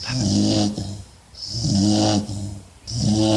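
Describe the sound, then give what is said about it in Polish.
A dog snoring in a steady rhythm, three rasping, rumbling breaths with short quieter pauses between them, loud and alone with no talking. “Kto tak chrapie?”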